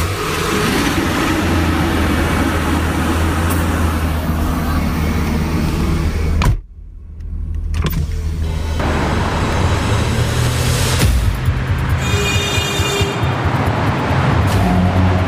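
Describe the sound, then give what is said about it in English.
A truck engine is started in the morning in the suburbs of Washington, D.C., rumbling loud, a heavy steady drone that cuts out briefly partway through, then returns with higher whining tones over the low roar. No one speaks. “Then I start my truck.”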